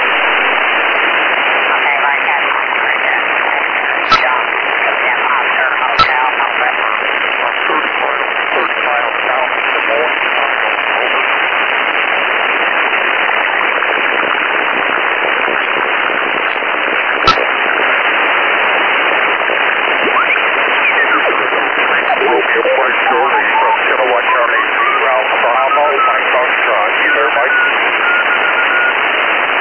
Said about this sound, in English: There's some interference here, and there's a lot of CW in the way as well